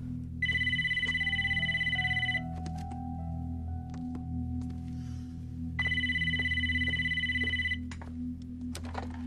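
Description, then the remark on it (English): A telephone rings twice in long, trilling bursts about two seconds each, separated by a pause, over a steady low hum of room noise. Nobody speaks. “He weighs up the fallout in his mind and finally decides to phone.”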